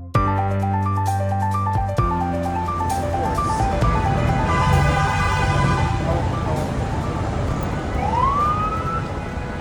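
Busy morning street traffic in Manhattan roars steadily, with car horns honking in repeated short blasts, a deep engine drone underneath, and a bus screeching in a siren-like squeal rising near the end.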